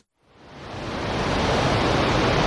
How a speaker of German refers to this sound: Wahnsinn! Absoluter Wahnsinn! Was für Wassermasse! Was für ein Naturschauspiel hier!